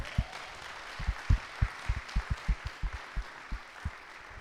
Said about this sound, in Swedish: De förtjänar väl också en applåd egentligen, va?